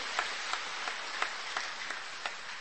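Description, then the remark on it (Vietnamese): A church audience applauds together on the feast of Our Lady of the Rosary, congratulating the women, groups and parishes who take the Virgin Mary as patron, a dense, steady wash of many hands clapping with a few sharper claps standing out, sustained throughout. “thay mặt cho cộng đoàn chúc mừng tất cả các bà, các chị nhận Đức Mẹ Maria làm bổn mạng trong ngày lễ mẹ mân côi, các đoàn thể, các tổ chức, các giáo xứ nhận mẹ Maria mân côi làm bổn mạng, một tràng pháo tay thật lớn, thật nồng nhiệt thưa anh chị em.”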